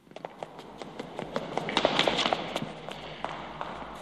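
Quick, hard-soled footsteps clatter down a stone staircase behind an old door, two people descending deeper and deeper by torchlight, feet tapping in an uneven rush that swells louder midway, then thins out and fades.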